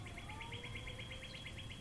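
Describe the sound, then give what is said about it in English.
Birds chirping in a rapid, steady series of short high notes, fairly quiet, over a low rumbling outdoor background with no one talking. “As the birds join us”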